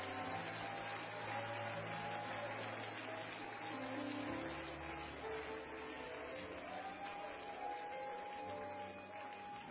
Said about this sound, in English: This is an apostolic church. You can clap and shout. You can clap and shout. This is an apostolic church. It's allowed. It's permitted. It's in order. Hand clapping's in order. Shouting's in order.